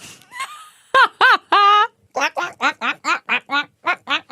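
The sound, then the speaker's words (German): A person imitates a duck with nasal, voiced quacks: a few drawn-out calls, then a quick, steady string of about a dozen short, loud quacks. “Mach nochmal die Ente, komm.”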